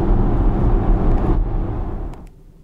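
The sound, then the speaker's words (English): An electric sports car rolls in with a loud, steady low rumble of road and tire noise that eases off and fades to near quiet as it comes to a stop, pulling into an Ionity charging station for a recharging stop. No one speaks. “So I'm making my last recharging stop before returning the car, and I've pulled into an Ionity charging station, as that's one of the recommended charging networks that Porsche mention, partly because they offer very high speed charging”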